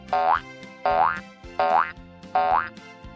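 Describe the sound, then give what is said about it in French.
Four springy boing sounds bounce in a steady rhythm for a hopping kangaroo, each a rising twangy pitch sweep like a cartoon hop, loud with no talking. “Hop goes the kangaroo.”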